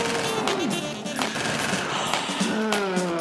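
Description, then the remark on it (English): A rapid burst of gunfire crackles throughout, sharp repeated shots in quick succession like automatic weapons, loud, with faint tonal sounds weaving underneath. “insert gunshots here”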